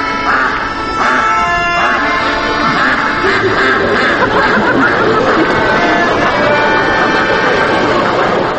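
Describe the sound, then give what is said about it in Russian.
A loud, continuous chorus of performing circus geese honking and cackling over one another, many birds, with harsh overlapping calls filling the whole stretch without pause. “А вместе с ними выступают голуби, кролики и чудесно поющие, ахающие гуси.”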